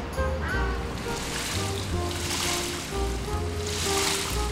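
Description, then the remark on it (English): Water pours steadily onto potted plants in a continuous splashing rush, loud for the whole moment, with a soft low rumble underneath and no one speaking. “Want to water the plants?”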